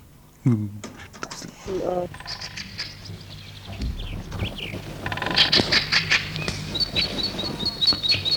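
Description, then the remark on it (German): Birds sing and chirp in a spring forest, bright repeated calls rising through the second half, mingled with rustling and a voice talking in the foreground. “Psst, du vertreibst ja die Vögel.”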